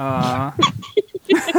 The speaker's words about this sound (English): Dog's toy squeaking maniacally? Yes. Okay, sure, it's fine.